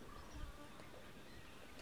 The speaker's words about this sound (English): If it's a wasp